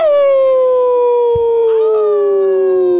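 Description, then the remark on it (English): A person lets out one long, loud imitation howl, a sustained wavering tone that slides slowly downward in pitch for about three seconds, with no talking over it. “I'd rather other people get screwed on presents than myself look like an idiot every time someone rings a bell and I have to howl.”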